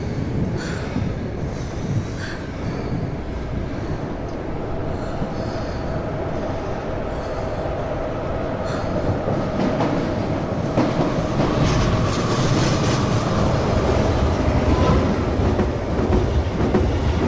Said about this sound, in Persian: مقصدش آساکوسا است. این قطار با ایچوم موازیه.